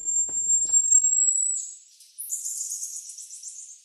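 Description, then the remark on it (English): Marmoset monkeys, small monkeys about 20 centimeters (8 inches) high, give high-pitched calls: a long, steady, whistle-like tone that wavers and breaks, followed by a rapid, buzzy trill of piercing notes, with no voices present. “But these are marmosets here.”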